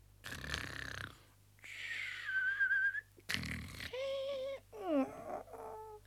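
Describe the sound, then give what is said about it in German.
A voice, as the character Pumuckl pretending to be fast asleep, fakes exaggerated snoring: two raspy, snorting inhales, each followed by a high, wavering whistle-like exhale, ending in a few squeaky, sliding vocal tones. “Der Pumuckl tat, als schliefe er fest und schnarchte, so echt er es nur fertig brachte.”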